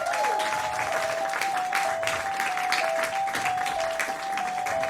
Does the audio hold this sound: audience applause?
yes